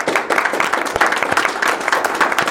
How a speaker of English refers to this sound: So let's give him a round of applause as he comes up.